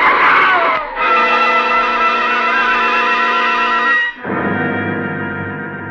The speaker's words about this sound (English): There's a helpless skidding sensation as the car lurches across the wet pavement, and then a sickening thud.